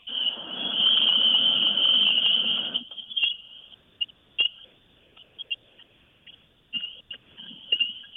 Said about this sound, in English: So what did we just hear? When we heard spring peepers.